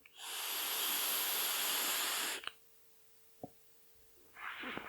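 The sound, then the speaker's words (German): A steady airy hiss of an e-cigarette vape puff lasting about two seconds, followed by a couple of soft clicks in near silence, then a second hissing draw starting at the end. “Die Dampfe wäre lauter. So mal als Vergleich.”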